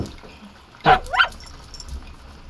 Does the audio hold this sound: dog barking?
yes